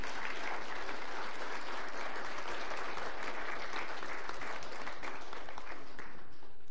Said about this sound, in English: I think a round of applause is very appropriate.